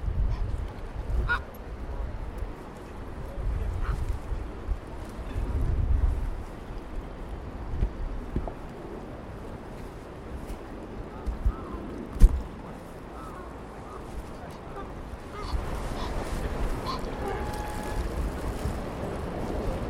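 Geese honk now and then, scattered calls over steady wind and lapping water, with no one talking, while people throw pieces of bread in for them.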